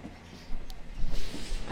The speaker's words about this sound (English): The train is always so empty at night.